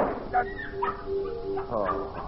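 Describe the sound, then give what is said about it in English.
A dog whimpers and lets out short, yelping barks in a room in the middle of the night, the whining tones rising and falling over a steady low hum. “Oh, a dog. Only a dog.”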